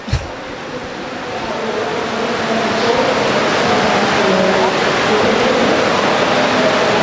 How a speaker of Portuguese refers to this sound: Ah, caraca. Tá chovendo aqui. Desculpe, gente, saiu tudo aqui. Dá pra puxar aqui? Tá caindo água aqui.